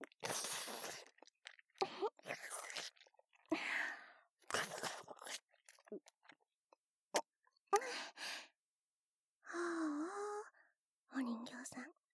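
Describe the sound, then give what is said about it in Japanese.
Wet ASMR ear-licking sounds: irregular smacking, slurping bursts and sharp clicks, quiet, with a few soft breathy moans near the end and no clear speech. “これ、ただの耳なめだよ。”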